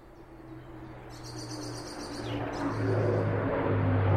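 A wood warbler sings two high, shivering trills in woodland while the deep, rumbling engine roar of a large military plane flying low overhead steadily swells underneath, growing louder until it nearly swamps the birdsong.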